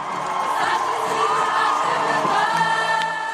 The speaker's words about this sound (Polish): Po mszy na Terreiro de Paso, w której udział wzięło około 150 tysięcy osób, setki młodzieży udały się do nuncjatury. Na miejscu przy śpiewie i gitarach młodzi ludzie wołali: Benedykcie XVI, jesteśmy tutaj.